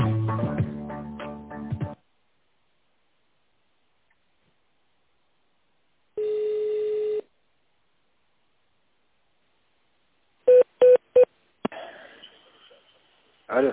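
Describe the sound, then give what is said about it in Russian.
Three short, clipped telephone keypad tones sound in quick succession, each a steady dual-pitch beep, as an employee's extension number is dialed in tone mode on the company Vendor's phone line. A longer single electronic tone comes a few seconds before them, and faint line hiss follows. “Для соединения с сотрудником наберите его внутренний номер в тональном режиме или дождитесь ответа секретаря.”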